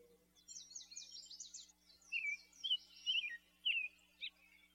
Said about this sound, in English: Outside, the birds fly around the feeder.